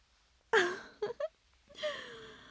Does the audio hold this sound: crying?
yes